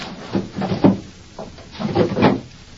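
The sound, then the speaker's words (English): The wooden top drawer of a chest slides open with a short scraping rumble, then after a brief pause scrapes shut again, moderately loud, with no voices. “look in that chest over there and bring me the small cardboard box that's in the top drawer.”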